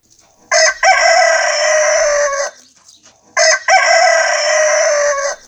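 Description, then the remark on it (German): A rooster, Herr Hahn, crows loudly, two long drawn-out cock-a-doodle-doo calls separated by a short pause, with no talking. “Ach ja, also Sie vermissen die Schüler auch, das hört man.”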